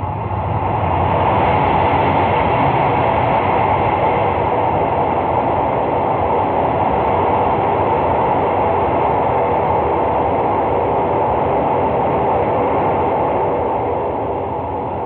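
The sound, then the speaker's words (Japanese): A steady, loud rumble of the Hokutosei night train running on rails through the undersea Seikan Tunnel around 5 a.m., a continuous dense roar with a low rhythmic clatter underneath, sustained without pause and with no voices. “海底のトンネルを走る鉄路の音が寝静まった車内に響きます。”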